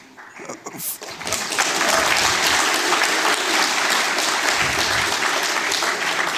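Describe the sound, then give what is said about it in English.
Applause from a conference audience rises quickly after a moment of murmuring and holds steady as a loud, dense wash of many hands clapping for several seconds. “just to be aware, this is also a physical exercise talk, so prepare to clap or not, that's up to you.”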